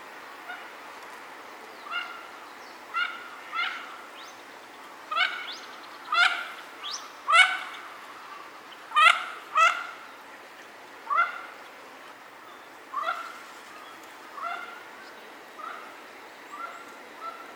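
Mandarin ducks at Meiji Jingu call in a string of about fifteen short, nasal, squeaky notes at an uneven pace, clear over a quiet outdoor background, with no talking.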